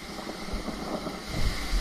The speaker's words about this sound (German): Es regnet in Strömen und ab und zu ist ein Donnern zu hören.